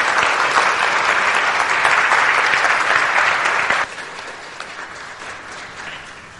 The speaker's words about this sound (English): Would you just show a round of applause for these sweet families? Thank you very much.